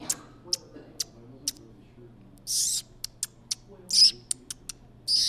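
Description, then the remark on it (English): A birder pishing to draw out birds: a series of sharp, high clicks and squeaks, broken by three breathy, hissing 'psh' bursts, all over a faint low hum with no talking. “He says they also use a pishing call to do the same.”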